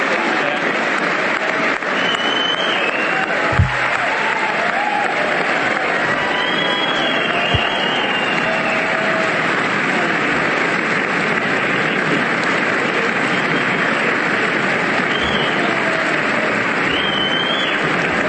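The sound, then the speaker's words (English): A standing ovation for President Trump during a speech: sustained, dense applause fills the whole stretch, a steady roar of clapping from a raucous crowd with faint cheers and whistles rising now and then, at a constant loud level. “Standing ovation for President Trump here. A raucous crowd.”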